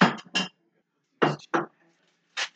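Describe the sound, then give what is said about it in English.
Ceramic dishes clatter and clink as a bowl is pulled out from among them, in three short bursts separated by brief pauses. “And then we're going to get a bowl.”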